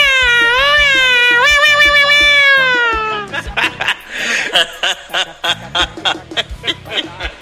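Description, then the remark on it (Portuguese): A voice imitates a cat with one long, loud, wavering meow that slides downward for about three seconds, followed by several short bursts of laughter, in the Stock Lá shop. “Consegue imitar aquele gatinho aí que tá todo mundo esperando aí”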